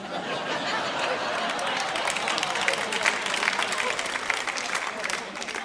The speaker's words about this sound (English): I can't tell why you're clapping at that.